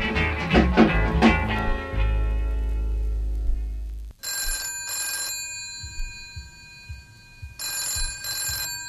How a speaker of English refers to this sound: Love to hear that telephone ring, talking on the phone.